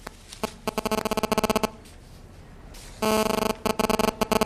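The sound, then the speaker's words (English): A mobile phone rings during a chaired meeting with a loud, buzzy electronic ringtone: rapid trains of pulsing tones in two bursts, separated by a short pause, with a steadier tone starting the second burst. “Excuse me, somebody needs to turn their phone off.”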